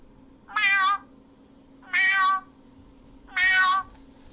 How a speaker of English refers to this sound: She sent me a cat. Yeah. When that goes off, people think it's a real cat.